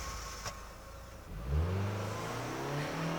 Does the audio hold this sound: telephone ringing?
no